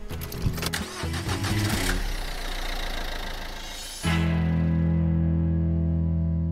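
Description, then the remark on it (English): A car engine cranks with a few sharp clunks and a rough whirring, then catches and settles into a loud, steady low drone as the vehicle drives out of the Alinda Community Hall car park in freezing cold weather. No one speaks. “We're just driving out of the Alinda Community Hall car park.”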